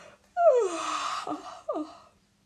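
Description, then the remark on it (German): A drawn-out, breathy yawn from a single voice, the little king yawning, its pitch sliding downward, followed by a short falling exhale. It is moderately loud, with no talking. “Versichert der kleine König und gähnt.”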